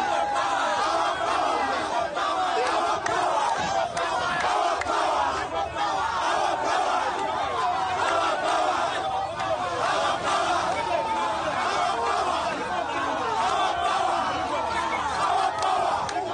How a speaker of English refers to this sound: Media reports say crowds chanting slogans gathered at the police station holding Kyagulanyi.